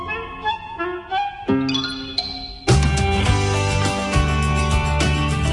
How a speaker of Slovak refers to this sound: Školský zvonček. Školský zvonček zvoní na hodinu, ale aj na prestávku.